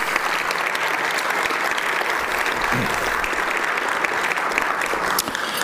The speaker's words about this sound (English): Let's please give General Joe Ralston a big round of applause.